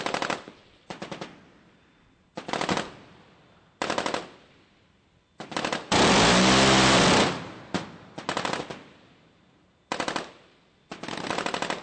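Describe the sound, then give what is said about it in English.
A ship's radar-guided SeaWiz cannon with six rotating barrels, able to fire 75 bullets per second, fires in a series of short, loud bursts, each a harsh continuous ripping roar. A longer sustained burst in the middle carries a whining tone that drops in pitch. “The radar-guided cannon has 6 rotating barrels that can fire 75 bullets per second.”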